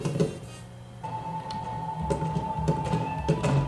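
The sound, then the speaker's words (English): A mechanical door in a video game slides open with a steady whirring hum and a sustained tone, accompanied by faint clicks and rattles, moderately loud, with no voices. “Now, this door here, we head through.”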